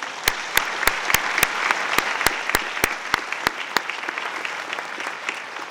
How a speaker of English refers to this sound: Please, everyone, join me in applauding the achievements and generosity and dedication of this wonderful class.